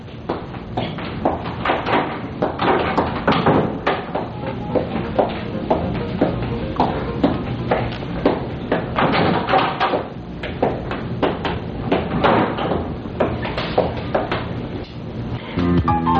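A door is handled and shut at nearly 10 o'clock on a cold night amid a continuous run of knocks, bumps and rattles that go on for several seconds, steady, with no voices.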